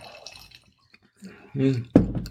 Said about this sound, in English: We're going to try it now. Pour a little bit more wine.